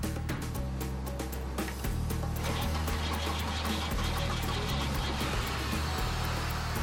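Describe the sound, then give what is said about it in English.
A car engine, boosted by an auxiliary battery, turns over and then settles into a steady, loud rumbling idle with a low droning hum, with no voices. “That way he wouldn't have to help me start it every time I come here. Auxiliary, battery.”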